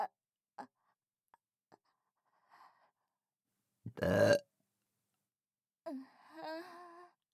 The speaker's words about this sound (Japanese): 全部飲み込んでのゲップですっきりしました。